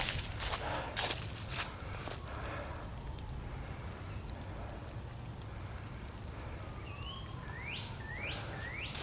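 A steady, soft hiss of light drizzle pattering on the forest canopy overhead on a warm day, with a few crunchy footsteps at the start and a bird chirping several quick rising calls near the end.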